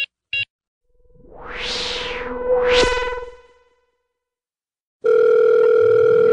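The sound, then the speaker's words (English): A couple of short electronic beeps, then a rising and falling swept tone, a pause, and a steady, buzzing telephone dial tone while calling the Medicine Remix hotline, holding to the end. No one speaks. “Calling the Medicine Remix hotline.”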